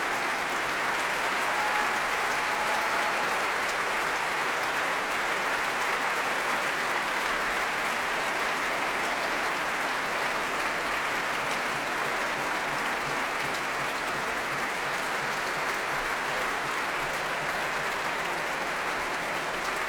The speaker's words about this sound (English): Alina's just made her way back on stage and is applauding the BBC Symphony Orchestra, who are remaining seated while she, Hugh Watkins and Edward Gardner take their bows.